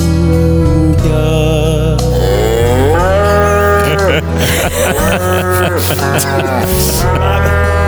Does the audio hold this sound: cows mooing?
yes